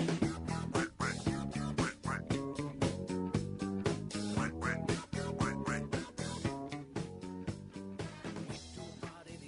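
A bouncy novelty disco song plays loud and continuous, with a driving four-on-the-floor beat and a nasal, quacking duck-like voice singing over the band.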